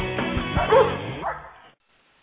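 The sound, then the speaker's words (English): A pack of huskies barks and yips excitedly together for over a second, fading out into brief silence before another short burst of barking cuts in at the very end. “Mosh, you Huskies!”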